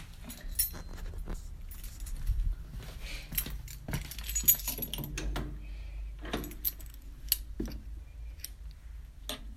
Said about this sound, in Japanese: では鍵を持って